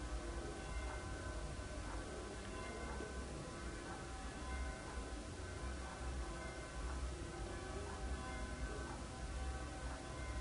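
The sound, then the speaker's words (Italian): Church bells ring continuously, their overlapping tones blending into a faint, steady wash of sound beneath a low background hum. “Si respira il suono delle campane.”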